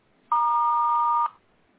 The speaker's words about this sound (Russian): Вас приветствует автоответчик. К сожалению, вызываемый абонент сейчас не может принять ваш звонок. Если хотите оставить ему голосовое сообщение, пожалуйста, говорите после звукового сигнала.